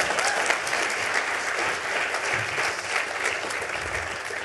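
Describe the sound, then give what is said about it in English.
A crowd of listeners claps steadily for several seconds for a guest who has just shared their insight, a dense, even wash of applause that stays loud throughout with no voices over it. “Let's have another big round of applause for Pip.”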